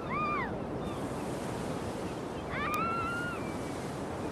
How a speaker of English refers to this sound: They pull up outside a row of tiny cottages next to a picturesque beach. The girls get out of the car and run down to the beach. Gentle waves lap the shingly beach.